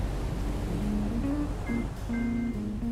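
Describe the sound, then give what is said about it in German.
A steady wash of sea waves and low engine-like rumble from a passenger ship gliding over the sea toward New York in 1963, with a soft, slow melody of sustained tones drifting over it. No one speaks. “Ein Passagierschiff gleitet über das Meer.”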